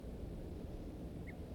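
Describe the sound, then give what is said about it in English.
A single short, high alarm note from a wild male bird, heard once over steady low wind and water rumble, faint. “One alarm note by the wild male.”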